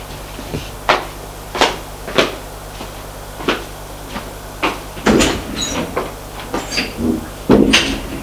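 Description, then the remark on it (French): A bellhop sets suitcases down in a bedroom with a series of thumps and knocks, followed by a cluster of clattering handling noises and a door being pulled shut as he leaves, with no talking. “Le groom met les valises dans la chambre et sort.”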